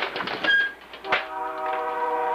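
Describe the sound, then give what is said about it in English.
A train rumbles through a small town in Wisconsin at night with clattering, rattling bursts, then a long steady horn sounds, its sustained tone holding to the end. “I hear the train coming through town”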